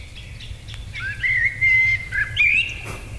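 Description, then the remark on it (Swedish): A recording of a common blackbird (koltrast) singing a clear, high whistled song of several sustained and slightly warbling notes, rising and falling in pitch, over a low steady background rumble. “Vi har den på burk här, vi ska höra vad den här förlätar och”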